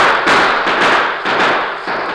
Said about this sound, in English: A few minutes later, the shooting stopped.